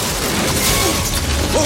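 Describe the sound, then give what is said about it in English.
A car swerves right to left on an oil slick sprayed from a limo, then skids with brief squealing tire sweeps over a loud, dense wash of scraping and crashing noise, sustained throughout as it flips over, harsh. “John swerves right to left, skids, and flips over.”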